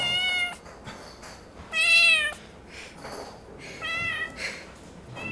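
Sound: cat meowing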